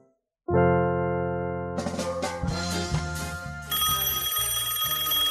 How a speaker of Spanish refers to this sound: ¡Pablo, mi teléfono! Atendé.